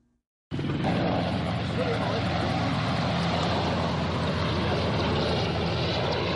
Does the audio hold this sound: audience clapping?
no